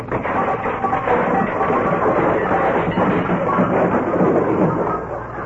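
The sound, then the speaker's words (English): A long, loud, continuous crashing clatter as a jumble of objects tumbles and bangs down out of an opened closet for several seconds, a dense rumbling cascade with no voices over it, easing slightly at the end. “When Stiver runs to open that closet door, look out!”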